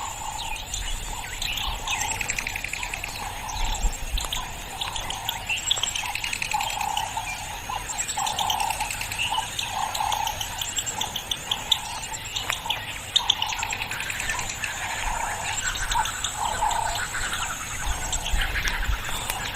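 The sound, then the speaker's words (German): Birds chirping and twittering continuously in Namibia for the whole stretch, many overlapping calls over a soft steady outdoor hiss, with no talking. “Ja, dieses Vogelgezwitscher.”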